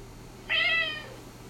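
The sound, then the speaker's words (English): A single high-pitched kitten meow sound effect, short and clear with a bright harmonic tone, rising quickly and trailing off over about half a second against a quiet background. “I'm taking over the podcast, and all sound effects will be kittens.”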